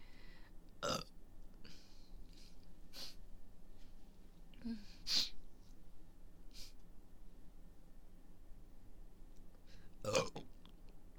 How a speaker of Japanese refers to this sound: めっちゃなんかゲロ混じりみたいなゲップ出る。奥に入れすぎてむせちゃった。